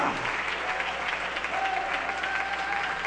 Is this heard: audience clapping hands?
yes